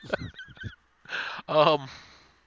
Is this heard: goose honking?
yes